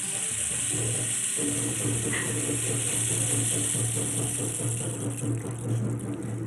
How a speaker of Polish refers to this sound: Ja muszę Państwu powiedzieć, że tutaj nasze panie przyniosły kij deszczowy. Tak się to nazywa. A co to jest, to proszę posłuchać.